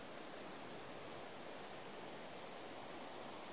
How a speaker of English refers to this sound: From the viewpoint, we've made our way down through the misty woods to the banks of the River Yore, which is twisting and drifting through this wood-clad valley.